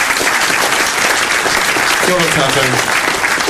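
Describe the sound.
A crowd claps steadily and loudly for a young boy who has just performed, a dense unbroken patter of many hands, with a brief voice calling out over the applause past the midpoint.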